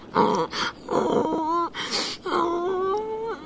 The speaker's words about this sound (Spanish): Caracolillo, me parece escuchar un llanto. Ay, sí, alguien llora.